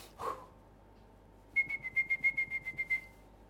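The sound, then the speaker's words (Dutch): A person whistles to call animals: one brief lower note, a pause, then a quick, even run of about ten short, high, piercing whistle bursts at a steady pitch, clear, with no talking. “Ik wil nu wel dat gefluit doen.”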